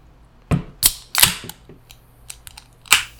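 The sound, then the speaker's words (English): A 9% ABV sour beer being opened: a quick series of about six sharp metallic clicks and snaps, bright and crisp, some loud and some faint, with no talking over them. “All right, so should we open it and figure out how sour it is?”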